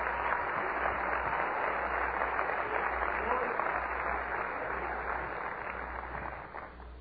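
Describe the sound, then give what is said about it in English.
A crowd claps their hands for Jesus in a dense, steady wash of applause that holds for several seconds, then begins to taper off toward the end, with some voices mixed in. “Clap your hands under Jesus today.”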